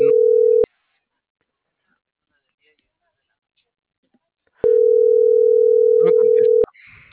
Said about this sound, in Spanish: Buzón de voz. Ah. Tu llamada está siendo transferida y se cobrará al terminar los tonos siguientes. Es el servicio de buzón de voz para Salud.